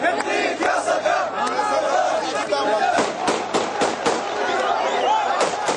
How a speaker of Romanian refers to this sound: Demonstranții au scandat lozinci pro-Saddam Hussein și au tras focuri de armă în aer.